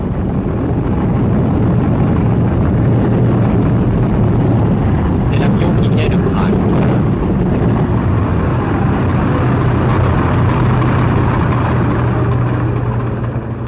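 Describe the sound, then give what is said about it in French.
A lead-toned military airplane taxis on an airfield among aircraft landing and taking off, coming to a stop in front of the onlookers, its engines producing a loud, steady low rumble and drone with a hum that holds throughout, slightly shifting pitch as it rolls. “Au milieu des appareils qui se posent et décollent du terrain, un avion militaire au ton plombé roule sur l'air, va s'arrêter devant nous.”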